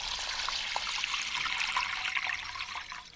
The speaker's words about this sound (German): Ich habe wieder so eine flache Glasschale. Da kommt jetzt gerade Wasser rein.